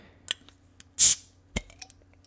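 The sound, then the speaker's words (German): A cola bottle cap is twisted open: a couple of small plastic clicks, then a short, bright hiss of escaping fizz, followed by another sharp click and faint crackling. “Also, ich werde es jetzt mal einfach aufmachen.”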